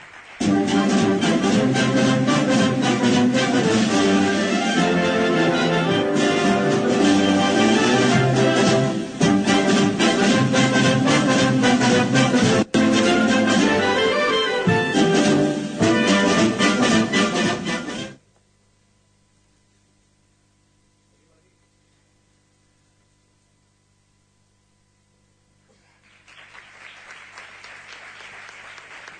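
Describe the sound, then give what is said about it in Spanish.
Sustained audience applause at an event in Huelva, for a team and Teleonuba staff joining the stage, fills the first eighteen seconds, loud and dense with many hands clapping, then cuts to near silence before a soft, hissy murmur rises near the end. “Así que un aplauso para ellos también, para el equipo y es la Orden.”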